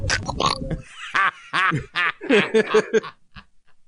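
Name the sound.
cartoon duck voice imitation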